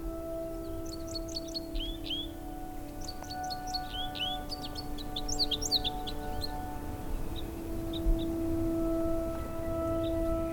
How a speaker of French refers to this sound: qu'à cette altitude, 2000 mètres, totalement à l'ombre, des mésanges et peut-être d'autres sifflements d'oiseaux s'ébrouent, chantonnent à la cime des arbres.